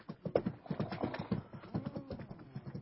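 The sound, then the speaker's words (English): Hooves clip-clop in a steady, brisk rhythm, like a horse trotting along a hard road, with no voices over the sound. “I tie my horse and cart him behind, but run along, you two.”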